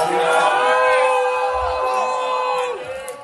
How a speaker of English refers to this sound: This is just students screaming at Kyle while trying to answer a question inside the venue last night.